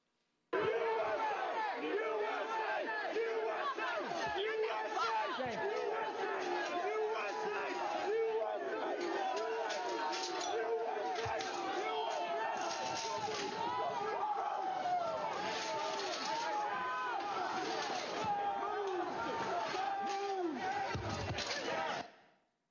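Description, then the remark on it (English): A large, agitated crowd at the Peace Circle shouts and yells nonstop while breaching a barricade of bike racks guarded by police officers, many voices overlapping into a loud, dense roar with a few sharp clatters and bangs mixed in. “can you describe the crowd that had assembled at the Peace Circle as you and your fellow officers stood behind and guarded the bike racks at the Peace Circle?”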